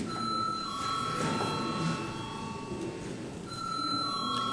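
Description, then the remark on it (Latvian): The chair's electric bell in a Saeima sitting, rung after the 28 November agenda items are finished, sounds a steady, sustained tone with bright overtones, briefly dipping midway before continuing, over a low background murmur of voices and movement. “Lūdzu zvanu.”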